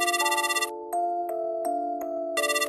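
A phone ringing tone plays on its own as a call is placed, a steady electronic melody with bright buzzy bursts at the start and end and soft repeating pulses in between, clear.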